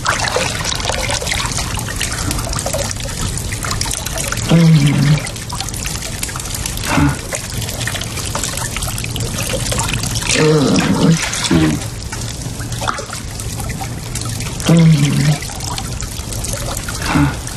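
In a scene, water is poured over a person, pouring and splashing steadily throughout, fairly loud, while a voice lets out three sets of short, wordless grunts at intervals.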